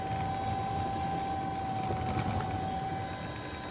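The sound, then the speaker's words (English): A steady, droning helicopter engine with a persistent whine and low rumbling rotor noise, fairly loud and continuous throughout, with no voices; a helicopter flying over an island above the sea in a 30-knot wind. “A great flock of seagulls have just risen up from the sea, obviously scared by the sound of the helicopter rotors.”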